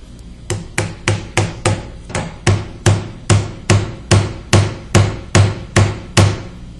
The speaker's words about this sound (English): We can take a nail and we can start banging around the screen here and nothing's going to happen. Bang, bang, all over the screen. No cracks, glass is still intact. In fact, we can actually use this as a hammer itself.